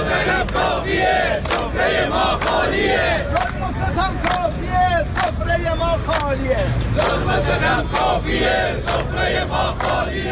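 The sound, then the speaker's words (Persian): Protesters in Iran bang empty cooking pots in a loud, irregular clatter of metallic clangs, over a crowd shouting and chanting continuously throughout. “صدای قابلمه های خالی مردم را بشنوید.”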